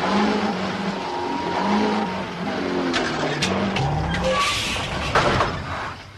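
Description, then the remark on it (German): A car engine revs and strains steadily, its pitch rising and falling as it accelerates while people push the car, with brief scraping and clattering bursts near the end; no talking. “Weiter, Peter! Gib Gas! Jetzt bloß nicht stehen bleiben!”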